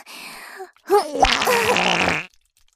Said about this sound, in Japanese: あら、汚い音出ちゃったわ。湿った音でブリリーって。匂いもとっても強烈でしょ。